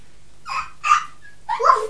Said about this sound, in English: They're hungry, look. A doggy.